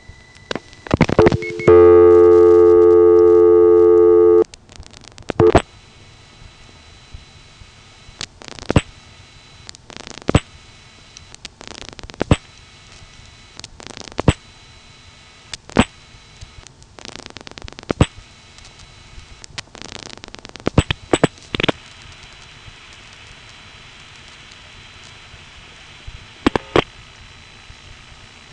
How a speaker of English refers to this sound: Six plus a number that goes to a crossbar 5 and ends up on a Bell System crossbar PBX thanks to line link pulsing.